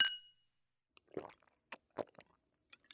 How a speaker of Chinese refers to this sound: 哎呀，你慢点喝，你看酒都洒出来了一点呢。 都留在你的喉结上了。